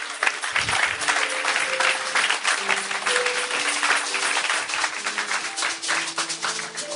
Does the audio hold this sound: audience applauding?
yes